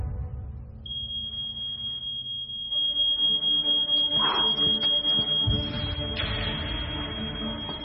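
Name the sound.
smoke alarm going off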